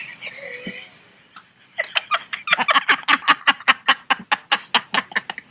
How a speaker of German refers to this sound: Und dann gackern sie wie aus einer Kehle.